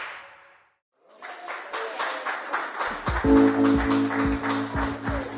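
applause

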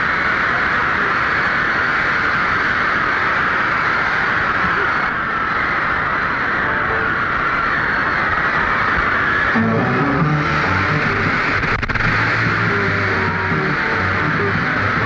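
roaring

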